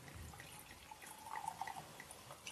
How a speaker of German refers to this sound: Und er hat einen Wahnsinnswein, der heißt Funky Punky Pinot Noir Rosé 2022. Funky Punky ist wirklich Funky Punky. Funky Punky. Geil. Ich schenke das jetzt mal hier in das Glas ein. Ups, ich heb mal so ein bisschen hoch.